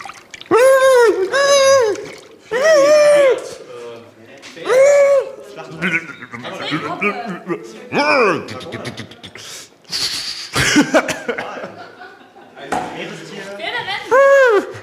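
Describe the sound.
A person imitates a dolphin, with loud, high squealing whistles that rise and fall, then rapid clicking bursts and more chattering squeaks, with brief laughter-like sounds in between, during a 30-second performance.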